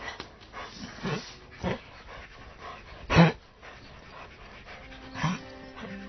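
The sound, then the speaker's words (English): A dog named Bongo makes strained, distressed noises, a few irregular bursts with a loud harsh cry in the middle and raspy, pant-like breathing between them. “I've never heard him make that sound.”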